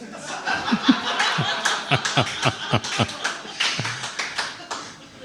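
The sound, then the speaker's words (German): A canned burst of applause mixed with laughter from a crowd, steady clapping and giggles filling the whole few seconds at moderate volume. “das sind deine Lacher, dein Applaus, falls du das hörst.”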